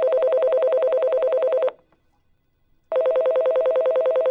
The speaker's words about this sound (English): Suddenly, out of nowhere, the phone rang.